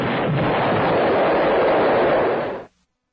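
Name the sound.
explosion sound effect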